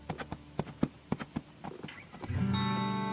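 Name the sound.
horse hooves clip-clopping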